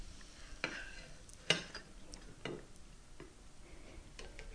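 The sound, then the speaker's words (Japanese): Food sizzles quietly in a lidded frying pan as the lid is opened, a steady crackling hiss broken by a few sharp clicks and taps, with no one speaking. “じゃあどうでしょう、蓋を開けてみましょう。いいチリチリとした音がしています。”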